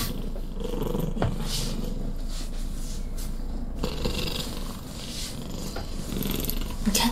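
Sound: cat purring loudly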